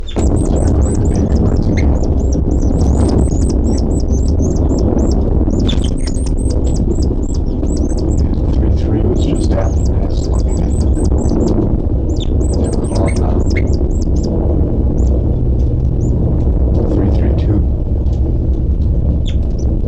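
Calls of bird 3-3 and occasionally bird 3-2-7 fill the whole stretch: rapid, repeated high-pitched chirps in dense bursts, at times thinning to scattered single notes, over a constant low rumbling background with no talking.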